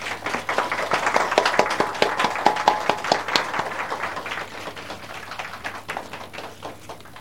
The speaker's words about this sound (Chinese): 咁而家我哋以热烈嘅掌声欢迎